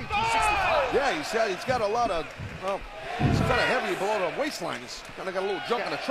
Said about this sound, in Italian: Sentiamo il pubblico.